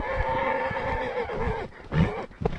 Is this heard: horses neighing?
yes